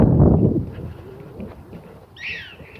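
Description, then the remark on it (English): A prairie dog calls near the end with a brief burst of high, squeaky chirps that slide downward in pitch, following a low rumbling thump at the start and quiet background. “Prairie dog. Do you hear him?”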